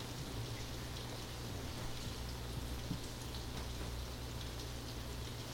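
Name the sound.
rain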